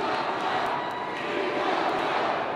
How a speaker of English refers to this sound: What are they yelling? Do you know? We want Trump.